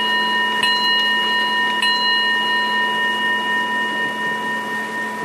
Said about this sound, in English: I noticed that the chime on my clock that it's intense, but not very loud.